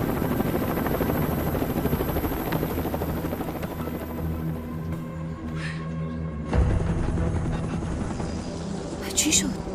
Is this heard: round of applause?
no